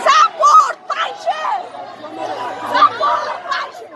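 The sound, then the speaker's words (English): Hundreds of Afghan women chant and shout together in loud, rhythmic bursts at an outdoor street protest against the Taliban in Kabul, with overlapping calls and a steady hubbub of chatter between phrases. “Just this past Tuesday in Kabul, hundreds of Afghan women led one of the largest protests against the Taliban, and Tolo was there to cover it.”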